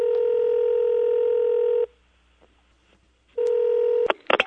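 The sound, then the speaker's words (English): A telephone ringback tone sounds twice, a long steady ring, a pause, then a shorter ring, cut off by clicks and handling noise as the line is picked up. “So the CIA takes the blame for now, and maybe it occasions a phone call.”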